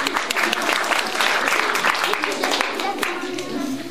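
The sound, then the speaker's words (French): An audience applauds steadily for several seconds, a dense wash of many hands clapping at an even loudness, with voices faintly audible underneath. “Alors, oui, on peut les applaudir pour commencer, ça va leur donner du coup.”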